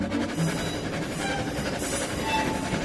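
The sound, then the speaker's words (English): A steam train runs on rails, a dense, steady roar of rumbling and rattling with a faint metallic whine on top, holding constant loudness throughout, no voices. “We're really steaming now, aren't we?”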